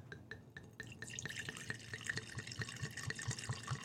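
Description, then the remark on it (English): Wine glugs and trickles into a glass, poured away from a laptop, a rapid run of bright splashy drips and gurgles that keeps going steadily, fairly quiet, with no talking. “We want you to pour that away from the laptop.”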